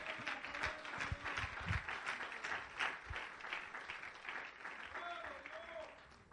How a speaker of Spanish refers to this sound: Alábalo, alábalo, alábalo. Es más, dámele un aplauso.